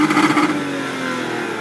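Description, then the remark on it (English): An Aston Martin DB9 sports car engine revs hard during a sponsored drive at Upper Hayford Park, an old Air Force base: a loud throaty burst that settles into a steady, sustained roar with no voices over it. “On the 20th of July, I went to Upper Hayford Park, an old Air Force base, where I did a sponsored drive in an Aston Martin DB9 for the RNIB Cymru.”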